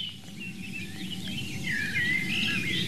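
bird, birdsong

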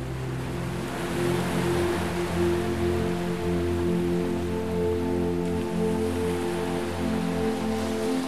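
nature, sea waves rushing

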